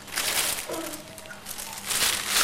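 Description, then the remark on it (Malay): Crinkly plastic rustling, steady and continuous with brief louder bursts, as hands rummage through a thin plastic bag looking for a cassette. “Kaset di kantong plastik.”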